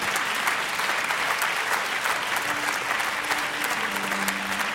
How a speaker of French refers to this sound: que vous pouvez applaudir bien fort